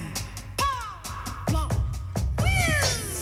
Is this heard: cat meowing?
yes